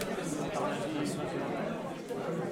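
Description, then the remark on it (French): Steady crowd chatter at the Répare Café de Clunet, where neighbourhood tinkerers gather to repair everyday objects: many overlapping voices blend into a dense, continuous murmur with no single speaker standing out, holding an even loudness throughout. “Comme tous les deuxièmes mardis du mois, de 14h30 à 19h30, une foule se presse au Répare Café de Clunet.”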